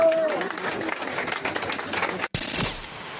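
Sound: audience applauding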